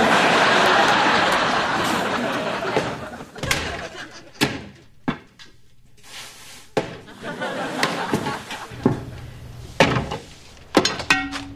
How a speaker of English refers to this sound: Wilson, if you need firewood, I got plenty here. Don't have to chop down your house. No, no, no, Tim. I'm just knocking down some icicles.